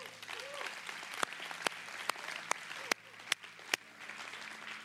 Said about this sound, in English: Every week we clap at this moment. We clap because one of our core values is that we believe that we get to give.